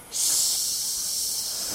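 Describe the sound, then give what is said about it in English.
A blowtorch used to cut steel, operated by a child worker, hissing: a sudden, steady high-pitched rush of gas that starts abruptly and holds at an even, fairly loud level for the rest of the moment, with no voices. “The torch makes a hissing sound.”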